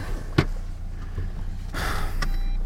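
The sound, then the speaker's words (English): Steady low road-and-engine rumble from inside a moving car driving into town, with a sharp knock early on and a stretch of louder rushing noise later; no one speaks. “So I'm in a car with a random collection of people.”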